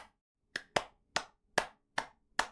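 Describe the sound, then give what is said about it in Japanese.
Six or seven crisp hand claps tapping out the rhythm of the song 'Mary Had a Little Lamb', an uneven pattern with a quick pair at the start, then evenly spaced claps. No voices, just the claps on their own. “これを刻んでおいて、で、手拍子で歌うんです。”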